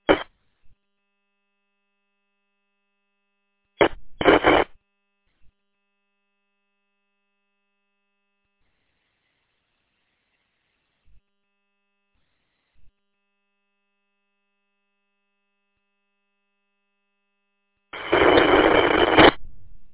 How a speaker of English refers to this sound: It sounds like someone's failing to get into the repeater.